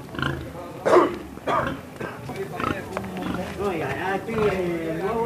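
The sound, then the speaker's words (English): A 500-pound pig, led by a rope around her shoulders on Alameda Street in Trinidad, Cuba, grunts and squeals in a few loud bursts near the start, while the group of men surrounding her chatter and call out outdoors. “On Alameda Street, a group of men surround a 500-pound pig being led by a rope around her shoulders.”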